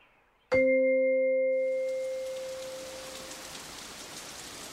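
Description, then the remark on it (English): A bright chime rings out once and fades, then steady rain hisses in, falling evenly and continuing on its own with no voices. “It's rainy outside.”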